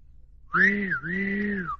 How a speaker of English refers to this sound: Steam's way up. Careful you don't burst your boiler. When there's any danger, the whistle blows.